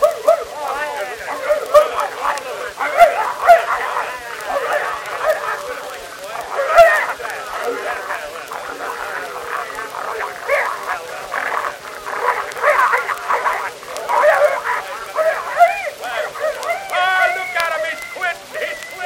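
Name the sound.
dogs barking and yipping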